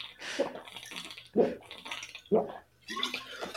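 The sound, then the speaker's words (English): A person chugs water, with about three loud, wet gulps spaced roughly a second apart and softer swallowing and sloshing sounds between them. “Let me close it out with a little chug from the boss.”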